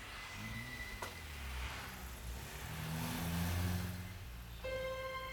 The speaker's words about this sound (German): Schnell hob er sie wieder auf, stieg in seinen Wagen und fuhr davon.